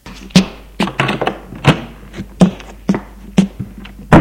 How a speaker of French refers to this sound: ouvre la porte de la chambre.